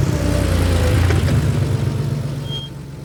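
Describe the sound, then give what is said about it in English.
A 1977 GMC van engine rumbles with a deep, throbbing low tone, holding steady before easing off slightly toward an idle as it pulls up. No voices. “For those hardcore horror junkies who want the ultimate thrill, they might shell out how much, what, maybe a few grand, to one day be walking down Main Street and have 2 unseen goobers pull up next to you in their 1977 GMC van.”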